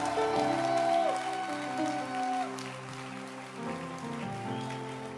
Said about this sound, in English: Are you happy to be in church? I can't feel your happiness. Are you really happy? Then clap your hands again.